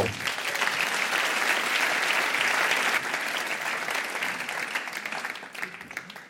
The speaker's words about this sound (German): Er kommt aus Thun und er ist der Marco Gurtner. Applaus für den Marco!